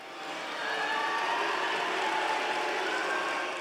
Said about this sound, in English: Today, Rauner spoke to graduates, but was booed when he was introduced.